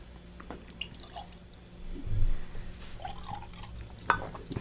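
Soft drips and a brief trickle of a couple drops of water falling into a glass of whisky, with a few faint wet splashes and clinks over a quiet background; no one speaks.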